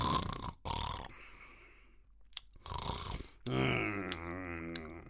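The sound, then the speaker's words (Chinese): A voice imitates an old hunchbacked man asleep, snoring and grinding his teeth: a few rough, raspy snore bursts broken by short pauses and gritty clicks, fairly loud, ending on a long voiced rumble. “嗯，嘿，打呼噜，还咬牙。”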